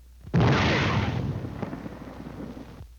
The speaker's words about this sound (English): This is the way it sounds to the soldier under fire. First, the shriek of the shell as it passes overhead. Listen.